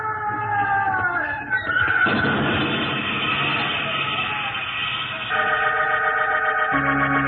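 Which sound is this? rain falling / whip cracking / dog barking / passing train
passing train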